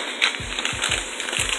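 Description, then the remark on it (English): Food sizzles on a grill outdoors during the Burrito Radio Show, with a steady, bright hiss full of crackles and pops, while soft low thumps recur every few tenths of a second underneath; nobody speaks. “You hear the sizzle? It's sizzling!”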